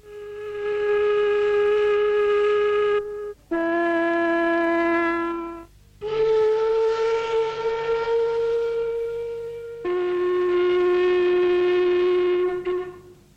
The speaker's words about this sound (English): Then we have our factory whistles.